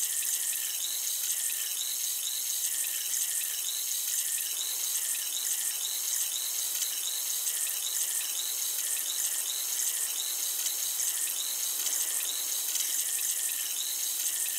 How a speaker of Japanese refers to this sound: 炭酸を用いた耳洗浄をしております。この耳で弾けるシュワシュワとした音と感覚が心地いいですよね。